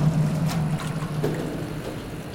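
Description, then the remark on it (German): Steady running water flows continuously through an aquaponics circulation system, returning from the raised plant bed back to the fish, with a low hum underneath and a soft trickling texture throughout, with no voices. “Und das Wasser geht dann hier weiter, wieder retour in die Anlage und wieder zu den Fischen, sprich es bleibt im Kreislauf.”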